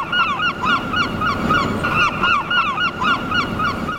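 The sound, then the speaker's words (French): A dense chorus of seabird calls from a colony, harsh overlapping honking cries repeating continuously over a steady rumbling wash of countless other voices, with no pause for the whole stretch. “Les oiseaux marins communiquent d'une part de façon visuelle, par les couleurs, par les dessins de leur plumage, mais les cris ont aussi une très grande importance”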